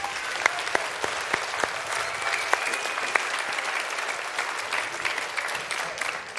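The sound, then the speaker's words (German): Audience applause for a performer at a stage show, a steady wash of many hands clapping with a few sharp claps standing out near the start, holding at an even level throughout. “Nochmal Applaus”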